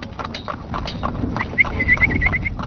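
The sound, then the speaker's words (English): Steady, even-paced clip-clop of horse hooves pulling a horse-drawn wagon used as a taxi in the border town of Dagana, Senegal, with a run of short, high squeaky chirps joining near the end. No one speaks. “makes a few dollars a day driving one of the horse-drawn wagons people use as taxis in the Senegalese border town of Dagana.”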